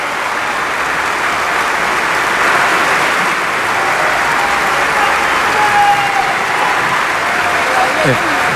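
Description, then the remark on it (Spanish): Sustained applause from a crowd applauding the act (acta) just read aloud, a dense steady patter of many hands clapping at an even loudness for several seconds, with a faint tonal whistle-like sound briefly rising through it. “Bueno, ahí están aplaudiendo, obviamente, el acta que se leyó recién.”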